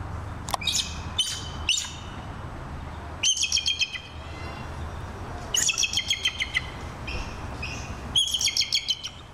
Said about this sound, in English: Let's hear what a real bald eagle sounds like.